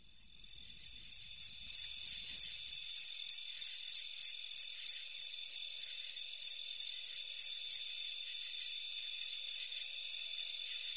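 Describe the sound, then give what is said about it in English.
A rhythmic call of a long-beaked conehead katydid: rapid, evenly spaced high-pitched pulses repeating steadily over a continuous background trill of crickets, with faint low rumble at the start. “Yeah, in the background there is that trill of crickets, but the long-beaked conehead was that sort of rhythmic.”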